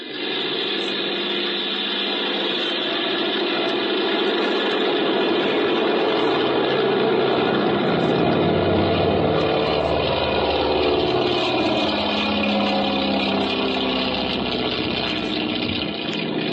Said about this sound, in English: Got the plane gas, Folger? Yeah, all set. Well, I guess we can take off.